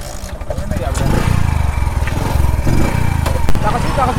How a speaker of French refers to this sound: sur sa moto, casque sur la tête et gilet jaune enfilé, pour être facilement identifié, sillonne les rues de la cité de Yendabli à la recherche de clients.